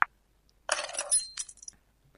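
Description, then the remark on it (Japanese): Keys jingle as they are picked up: a close, bright burst of metallic clinking lasting about a second, with no voices and silence around it. “また鍵忘れるぞ。”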